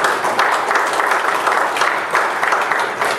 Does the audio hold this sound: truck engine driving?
no